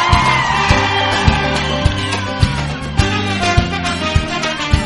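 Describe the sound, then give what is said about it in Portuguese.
A crowd shouts and whoops together, a dense roar of voices mixed with loud live music and a steady thumping beat throughout. “Assim em cima, quem tá gostando dá um gritinho.”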